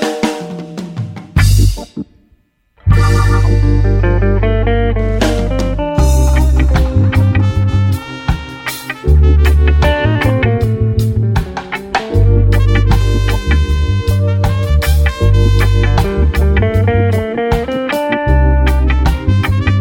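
A song plays loud and full, with a thumping bass line and bright, sustained instrumental melody over it; after a brief dip near the start it carries on steadily with no talking.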